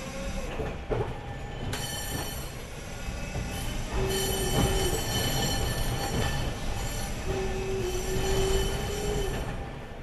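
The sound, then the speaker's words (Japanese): A train rumbles steadily along the rails, arriving at the Densha Jigyosho-mae stop for a crew change, with metallic clatter and a couple of drawn-out wheel squeals rising over the continuous rolling noise; no one speaks. “電車事業所前でございます。乗務員交代になりますのでご一緒待ち願います。”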